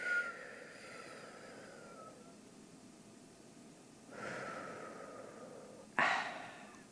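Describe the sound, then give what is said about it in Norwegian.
Slow, deep breathing during a breathing exercise: a long exhale fades away, then after a pause a drawn-out inhale, followed by a sharper, audible breath out. No talking. “Og ut. En gang til. Trekk inn. Og siste gang.”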